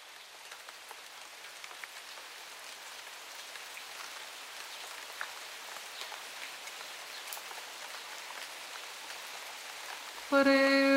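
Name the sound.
rain falling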